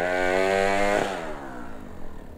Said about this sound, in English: That's better. That chainsaw's pretty noisy. Yeah, it is, but it sure cuts through that wood nice and fast.